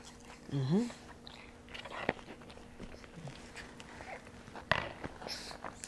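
Wet chewing and gnawing sounds of a baby chewing on a teething chew, soft and irregular, with a brief vocal squeal near the start and a couple of sharp clicks or taps along the way.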